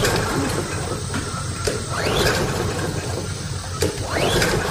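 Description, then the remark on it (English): A lawnmower's small engine being pull-started, with a couple of rising whirring sweeps from the starter cord over a steady sputtering mechanical rumble, with no voices. “There's no need to pull your shoulder out of your socket.”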